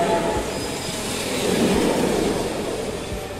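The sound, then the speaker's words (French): A train rumbles past with a steady, loud roar of wheels on rails and a faint high metallic squeal of the wheels. No one speaks. “Il continue et raconte que de fil en aiguille, les bulles sont devenues des trains.”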